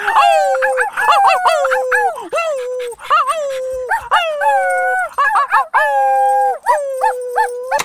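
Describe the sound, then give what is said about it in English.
Several dogs howl together, their long wavering cries overlapping and rising and falling in pitch almost without pause, with a few short yips and whimpers mixed in. “Oh, I forgot I joined in with the howling.”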